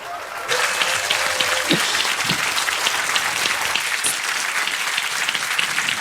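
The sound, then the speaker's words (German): Loud, sustained applause from an audience welcoming a speaker to a talk, a dense steady wash of clapping that swells in quickly and holds at full strength for several seconds, with a faint tone early on. “Bitte begrüßt sie mit einem ganz, ganz großen Applaus.”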